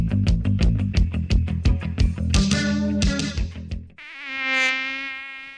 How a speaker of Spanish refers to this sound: El mosquito que transmite el dengue vive en el agua clara, que parece limpia, y se junta en las gomas, los tachos, los aljibes, cacharros, chapas acanaladas que juntan agua, tanques de agua sin tapa y floreros.